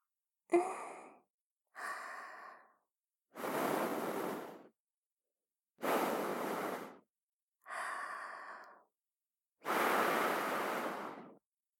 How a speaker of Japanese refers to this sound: お耳に残っている汚れも全部…の吐息で吹き消しちゃいました。